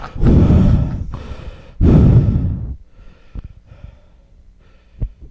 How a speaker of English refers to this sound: He's on the mic like. Can you stop breathing in the fucking mic? Dude. What is that, nose or mouth? What are you doing? That's when I'm breathing.